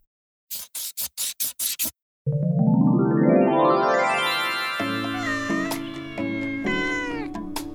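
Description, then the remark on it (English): A short run of six quick scratchy bursts, then a loud, long drawn-out cat meow that rises and wavers in pitch, heard close up with no talking. “Do you like cats?”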